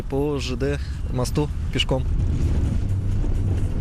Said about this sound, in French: il nous faut traverser la rivière Vychegda à bord d'un vieux bateau rouillé